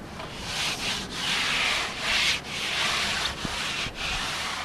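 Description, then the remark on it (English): A pink and white striped 8-foot-long surfboard being given a new coat by hand in a backyard in San Francisco's Outer Richmond neighborhood, heard as a run of steady, hissy rubbing strokes, about six, each broken by a brief pause. The scraping is fairly loud and no one speaks. “is coating a pink and white striped 8-foot-long surfboard”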